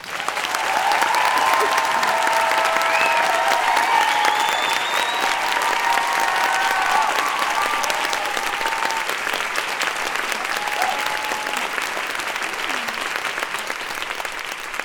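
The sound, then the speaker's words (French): Sustained, dense applause from a large audience at the first La Poudre Live show, welcoming a singer on stage, loud and steady, with faint whoops and cheers rising above the clapping. “Je vous demande d'applaudir, mais alors triomphalement, ….”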